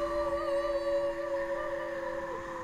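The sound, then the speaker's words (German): Several wolves howl together at night, with an autumn wind blowing, in long, steady, overlapping tones that hold without a break. The chorus sounds distant and fairly quiet against a faint background hush. “In der Ferne heulen Wölfe.”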